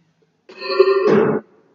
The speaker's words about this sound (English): All right, I'm going to try not to cough through all of this. So I apologize again.